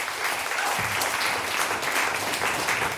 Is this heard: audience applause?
yes